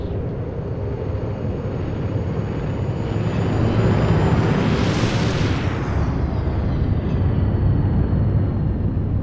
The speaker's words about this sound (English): Welcome to the Lunar Spaceport, the pinnacle of futuristic innovation. Today, we stand on the brink of the cosmos, where interstellar journeys are but a heartbeat.